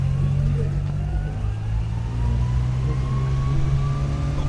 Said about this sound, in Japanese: トゥクトゥク、 はい、はい、あの三輪自動車ですね、名前がついてました。坂本参道旅人号、略して坂三旅人号、 うん、 黒いボディの三輪自動車、6人定員で乗っかれます。